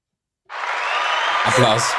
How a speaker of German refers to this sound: Applaus.